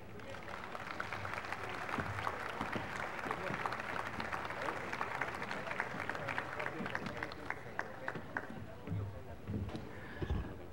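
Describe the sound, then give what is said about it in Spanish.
Steady applause from an audience welcoming the secretary general of the State Union of Education Service Workers as he gives the welcome message, many hands clapping densely and evenly for about ten seconds at a moderate level, with a murmur of voices underneath. “Vamos a recibirlo con un aplauso.”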